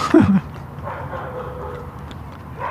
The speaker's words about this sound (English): Dogs talking to each other down here. The lady's up ahead of me. She's moving a lot faster than I am, so she's alerting all the dogs on the road.